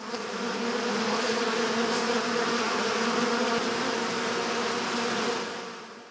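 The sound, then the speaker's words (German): A steady, dense buzzing of bees, several insects humming together, holding an even drone for about six seconds before easing off slightly at the end. “Also zuerst hören wir ein Summen und dann ein Aua.”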